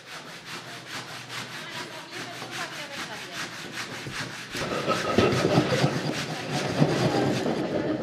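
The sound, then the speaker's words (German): A hand saw cuts steadily through wood in quick, regular back-and-forth strokes, fairly loud, growing heavier and rougher about halfway through, at a stonemason's, sawing off diagonals right down to a marked line. “Ja, wir nehmen die Säge in die Hand und los geht's.”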